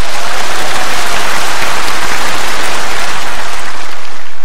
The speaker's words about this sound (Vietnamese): Cho nên chúng ta sẽ có một tràng pháo tay đón chào các bạn học sinh khiếm thị.